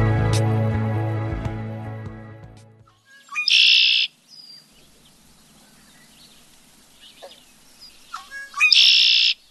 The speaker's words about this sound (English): There it is, alive and healthy, male red-winged blackbird.